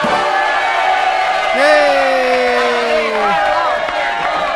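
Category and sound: crowd, crowd cheering and applauding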